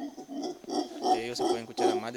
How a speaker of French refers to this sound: Les singes hurleurs sont une des espèces de singes les plus communes à voir et à entendre dans cette zone du Nicaragua.